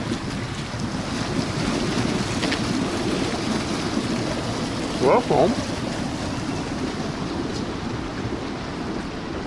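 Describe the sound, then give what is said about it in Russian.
Hot shower water runs in a steady, continuous hiss from start to finish, fairly loud, with a short spoken word from a voice about halfway through. “Плюс, что в душе вода горячая. Вот это радует. А это душ.”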